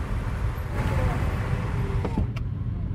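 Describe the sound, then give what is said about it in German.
A steady, loud rumble of hundreds of motorcycle engines rolling along a road in North Rhine-Westphalia, heard from the only car among them, deep and continuous, with brief higher engine whines rising through the din and a couple of sharp clicks near the end. “Also aus ganz NRW, aus ganz Nordrhein-Westfalen sind hier Motorradfahrer im Anmarsch.”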